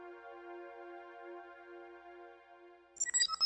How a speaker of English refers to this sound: The soft chime at his door prompted Chris to look up from the staff evaluations Buck had prepared for him.